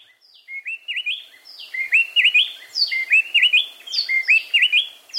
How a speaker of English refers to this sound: We're hearing the song of the gray-breasted wood wren in the mountains of southern Mexico, sung not just by a single bird, but by a mated pair. The two wrens are singing a duet.